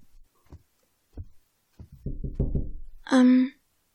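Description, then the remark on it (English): Knocking on a door: three spaced, muffled thuds, then a quicker flurry of knocks, ending in a brief high tonal sound. Moderately loud. “Maybe I'll just knock on his door on the way down the hall and see how he is.”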